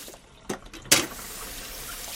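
Water runs steadily into a sink at a home, a soft continuous hiss, broken early on by two sharp clinks or splashes as a daughter washes dishes. No one speaks.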